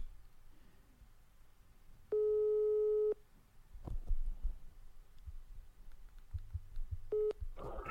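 A telephone ringback tone sounds while a call is placed to a man: one long steady electronic tone for about a second, a pause, then the start of a second ring, over a low background rumble.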